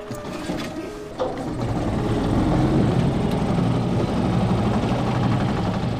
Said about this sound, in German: Gleich wirft er den Motor an, dann geht's noch schneller abwärts.